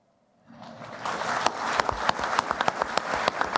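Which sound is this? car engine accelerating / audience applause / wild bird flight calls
audience applause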